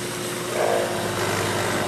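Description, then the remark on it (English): A power saw's motor whirs as it spins down after being switched off, a steady, fairly loud mechanical drone with a constant tone and a brief swell partway through. No voices are heard. “Now you turn off the saw.”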